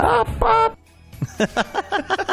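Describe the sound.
A person imitates a chicken bawking: two loud, nasal squawks, then a brief pause and a quick run of clucking bawks in a steady rhythm.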